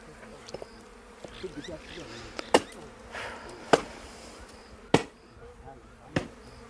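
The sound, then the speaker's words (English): A ranger hacks the horns off the front of a dead rhino's face: four heavy, sharp thumps land at a steady, unhurried pace, with a constant buzz of flies droning underneath between the blows. “The thumping sound reminds me of chopping wood.”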